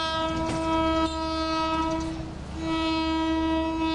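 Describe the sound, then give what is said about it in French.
A loud, sustained train horn blares with strong steady harmonic tones, briefly dipping and then sounding again, over the low rumble of a moving train, as the driver warns pedestrians, chickens, other animals and cars crossing the track. “C'est un peu la jungle et c'est toujours au conducteur du train de s'adapter. C'est comme ça. Donc ça klaxonne pas mal.”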